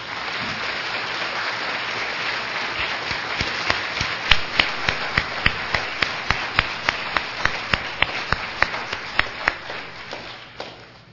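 A church audience applauds a long-serving church leader in a dense, steady wash of clapping. Sharper individual claps stand out more and more as the applause thins out and fades toward the end.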